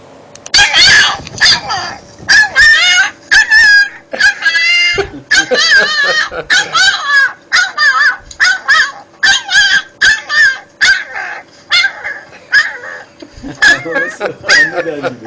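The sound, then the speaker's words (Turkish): A white puppy whimpers and cries in a long series of high, wavering yelps, some drawn out almost like the Turkish word 'anne' (mother). The calls are fairly loud, repeating with short pauses throughout. “Anne diye bağıran bir köpek yavrusu öyle mi?”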